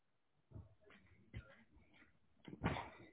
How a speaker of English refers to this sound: And just now, my dog decides to make a noise.